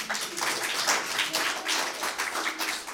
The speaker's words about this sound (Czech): Obdivuju děti, že to vydrželi. To si zaslouží pro vás velký potlesk teda.